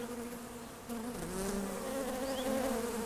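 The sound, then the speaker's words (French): Honeybees buzz in a steady, wavering drone, the pitch sliding up and down as they hover, with no voices present. Thousands of bees crawl over a person's skin coated in honeyed water, one at the corner of the eye, wings and abdomen vibrating. “Je vois les ailes des abeilles grand format, l'abdomen qui vibre.”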